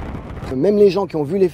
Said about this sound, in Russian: Жители и гости Женевы снова смогли насладиться грандиозным фейерверком. Его каждый год проводят в конце летнего фестиваля, включающего концерты, ярмарки и аттракционы. Организаторы говорят, что этот салют – один из лучших в мире.